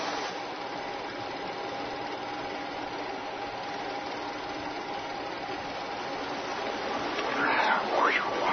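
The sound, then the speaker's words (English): A car engine runs with a steady, continuous drone for the whole stretch, swelling slightly toward the end, where a few faint rising whines cut through the hum. “Oh, look at that gorgeous car. And off we go.”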